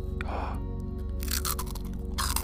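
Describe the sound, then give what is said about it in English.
Crunching of a crisp snack being chewed, a few bright crackly bursts in quick succession over a steady low electrical hum, with no talking. “See if you can guess by the crunch.”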